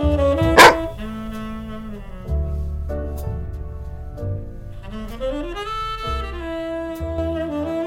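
A single short dog bark rings out near the start, brief and fairly loud, over a steady bed of sustained musical tones that continue afterward with no talking.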